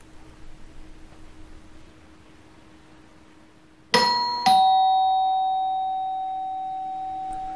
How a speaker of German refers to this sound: Und dann klingelt es.